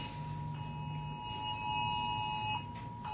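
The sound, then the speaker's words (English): An emergency alert alarm blares a steady, high electronic tone that holds without a break for the full three seconds, layered over a rough background hiss and rumble. “I guess that's an emergency thing.”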